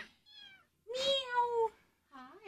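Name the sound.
kitten meowing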